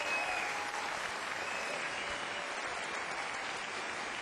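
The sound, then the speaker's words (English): An audience applauds the technicians steadily, a dense, even wash of clapping hands that holds at a constant level throughout without pause or voices. “And a special round of applause for all our technicians for watching this wonderful opportunity.”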